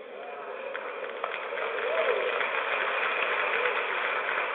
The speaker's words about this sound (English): Now you can hear the Kool-Aid drinkers in the audience applauding. These are all stooges. These are all dopey people.